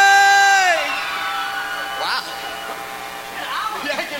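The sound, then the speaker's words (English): A large audience yells loudly in a sustained roar on the count of three as items are thrown to them, starting with a strong burst that gradually settles into a dense, steady wall of shouting and whooping voices. “Let me hear you yell real loud, and on the count of three, they're going to throw them.”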